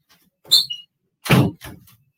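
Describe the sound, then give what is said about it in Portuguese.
A door closes in a home office: a brief creak and rustle, then a solid thump as it shuts, followed by a softer latch click. No one speaks. “Um segundinho, eu vou fechar a porta aqui, peraí, só um segundo.”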